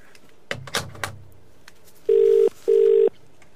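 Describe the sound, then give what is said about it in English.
A few soft handling clicks, then the ringtone of a phone call to a Vodafone number: two steady, mid-pitched electronic tone bursts, each about half a second, separated by a brief gap, fairly loud, with no voices. “Let me see, am I getting a ringtone here?”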